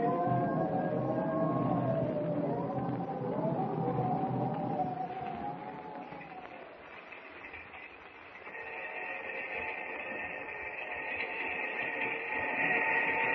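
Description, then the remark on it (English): A train rumbles steadily along the rails, a continuous roar with drifting metallic squeals and tonal whines rising over the low clatter, no voices present. “I haven't been able to sleep a wink since we got on the train.”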